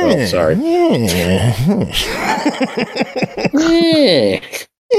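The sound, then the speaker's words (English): People imitate cats with loud, drawn-out meows whose pitch rises and falls, a few overlapping voices yowling and chattering in between, before a brief silence near the end. “We're making cat noises, I guess, to celebrate the fact that Pickle's doing better.”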